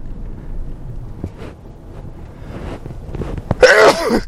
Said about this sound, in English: I'm just going to actually sneeze here.